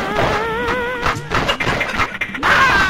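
Retro video game shooting effects from an unlicensed 1986 light-gun game, people being shot: warbling electronic tones wobble over a string of harsh, noisy blasts and crashes, loud and continuous, with a brighter chirping burst at the end. Nobody speaks.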